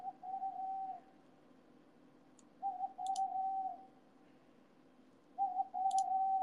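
An owl calls three times, each a steady, slightly wavering hoot lasting about a second, spaced a couple of seconds apart, with faint high clicks between the calls and no talking.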